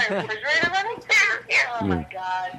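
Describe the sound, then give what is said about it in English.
A cat meows several times in quick succession, with high, wavering, drawn-out cries that rise and fall in pitch, followed by a shorter, lower mew near the end. “The cat loves it.”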